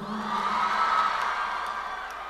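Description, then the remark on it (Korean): A crowd applauds and cheers at once, a steady, fairly loud wash of clapping mixed with whoops and shouts that holds evenly for a couple of seconds. “아니 이제 박수까지.”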